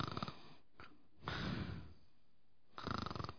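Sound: imitated snoring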